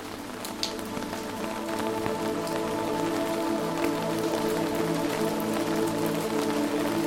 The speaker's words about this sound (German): Das stetige Rauschen des Wassers mischt sich harmonisch mit dem Prasseln des Regens und erzeugt eine natürliche, beruhigende Klangkulisse.